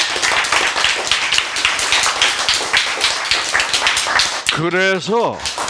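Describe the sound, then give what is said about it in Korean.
An audience claps steadily in a dense, crackling burst of applause for about four seconds, then a single voice lets out a short rising-and-falling exclamation as the clapping continues. “크, 박수.”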